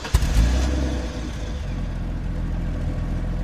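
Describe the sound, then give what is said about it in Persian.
A car engine cranks and catches with a sharp burst, revs briefly, then settles into a steady low idle rumble as the car is started but not driven off. No one speaks. “سوار ماشین شدیم. ماشین رو روشن کردم ولی تکون ندادم.”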